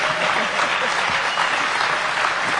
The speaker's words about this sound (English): Well, don't applaud so loud. I haven't done it yet.